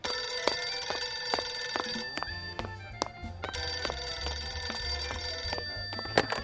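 An old-fashioned telephone bell rings loudly and continuously in rapid metallic trills, pausing briefly between bursts, with no voices present. It is the phone of Panorama Ring Ring, where callers at lookout points around the NDSM-werf reach an operator who tells a personal story.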